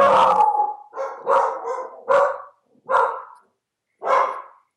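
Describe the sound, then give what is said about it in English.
Pet dogs barking loudly in a rapid, uneven series of about six sharp, harmonically rich barks, the first ones running together, then a few separated by short pauses. No voices accompany them. “My dogs disagree with you. Obviously, vehemently disagree.”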